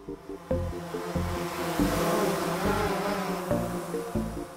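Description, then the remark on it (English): A dense, steady buzzing like a swarm of tiny, lethal drones, loud, with layered whining tones and a faint low pulsing underneath throughout, no voices. “A swarm of tiny, lethal drones.”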